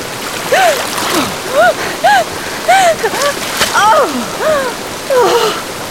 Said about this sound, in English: Kestrel waded into the frigid water.